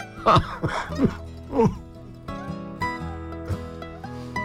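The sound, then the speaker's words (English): A person with a cold coughs and clears their throat in four or five rough bursts over the first two seconds, then steady sustained tones take over with no more coughing. “Never try to laugh when you have a cold. At least a coughing.”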